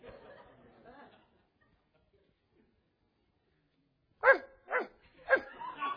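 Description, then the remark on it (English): A faint voice murmurs briefly, then after a pause a dog lets out four loud barks in quick, uneven succession. “God, deliver me from having a dog at my house that can't even bark.”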